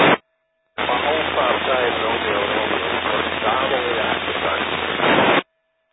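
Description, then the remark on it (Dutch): A weak amateur radio transmission from a station in a backyard, checking into the Muntronde net, buried in steady, band-limited static hiss, with a faint voice barely emerging from the noise for about five seconds after a brief opening burst. “Ja, het zit wat in de ruis.”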